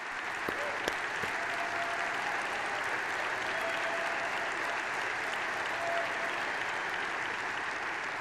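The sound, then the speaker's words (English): Sustained audience applause fills the whole stretch, a dense steady clatter of many hands clapping at an even loudness, with no voices rising above it, applauding President Trump's formal recognition of Israel's sovereignty over the Golan Heights. “Now that deserves enormous applause.”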